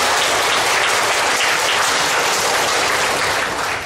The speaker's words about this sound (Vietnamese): Chúng ta xin một tràng pháo tay để tán thán.